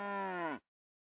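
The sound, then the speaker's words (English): A single short cow moo, a steady, fairly loud low call lasting just over half a second that drops slightly in pitch at the end, followed by silence. “This my cow. No, it's my cow.”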